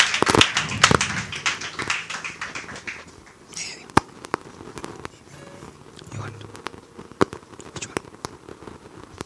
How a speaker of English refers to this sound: You can give him a harder hand clap, saints. It's for our Lord.